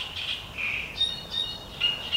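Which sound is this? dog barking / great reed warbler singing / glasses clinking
great reed warbler singing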